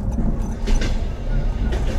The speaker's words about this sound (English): I just like the sound of the train, you know?